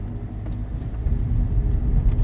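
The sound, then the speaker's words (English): A small car's engine rumbles steadily as it drives along a tiny little road on the way to Frankfurt, a dense low drone with faint tyre hiss, growing slightly louder partway through. “Good job we're in a tiny car.”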